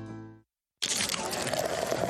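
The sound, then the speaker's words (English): After a brief musical tone and a moment of silence, Coors Light beer pours from a can in a steady, loud, fizzy rush of hiss and bubbling that continues to the end. “Do you hear that Coors Light being poured?”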